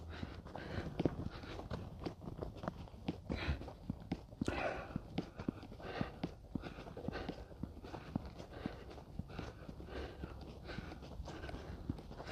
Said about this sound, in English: It's so quiet. No traffic. I can hear my clothes and footsteps.